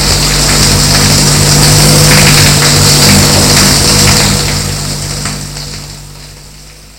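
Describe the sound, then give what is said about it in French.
A hand-held shower head sprays water into the shower to rinse it, a steady, loud hiss with a low humming drone underneath, gradually fading away over the last few seconds. No one speaks. “Il sort de la douche et donne un coup de jet dans la baignoire, enfin dans la douche.”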